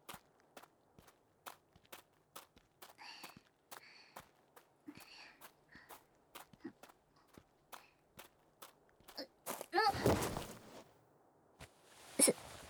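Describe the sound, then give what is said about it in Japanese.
Steady, brisk footsteps tap along in a regular rhythm, then break into a louder scuffle of shuffling and scraping as someone stumbles, followed by a sharp thud and quieter rustling. “すまぬ。つまずいてしもうた。”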